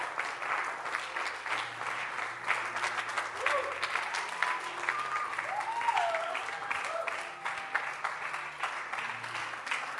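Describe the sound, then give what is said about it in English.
A church audience claps continuously for the full stretch to welcome a bishop, a dense steady patter of many hands, with faint voices and a low hum underneath. “Why don't you keep clapping your hands? Clap your hands properly.”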